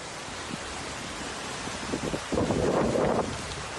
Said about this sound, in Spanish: El paso de la borrasca Nuria dejó una fugaz pero intensísima tromba de agua en A Coruña.